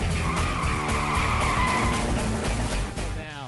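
Car brakes screech loudly for a few seconds, a sustained high tire squeal over rumbling engine noise, tapering off briefly near the end.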